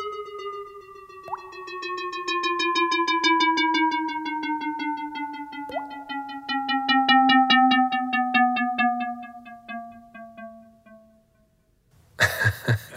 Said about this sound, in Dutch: En regelmatig hoor je ook een plong, precies een waterdruppel die valt.